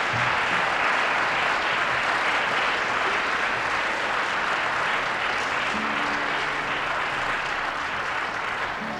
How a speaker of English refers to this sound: Maybe if we clap, he'll just come on here.